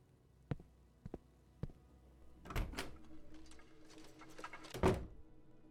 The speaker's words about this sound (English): What's wrong? You closed the door so quickly. Don't you want to escape?